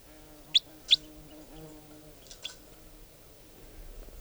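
wild bird singing

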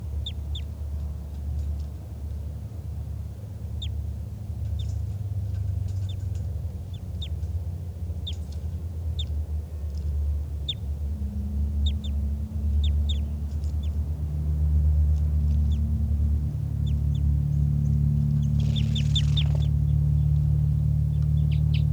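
bird flight calls

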